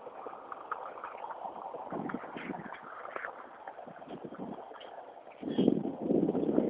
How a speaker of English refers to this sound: A bit of breeze picking up. If the breeze picks up a bit and the sun can get up, burn some of these clouds off, it might dry the lawn enough to be able to mow.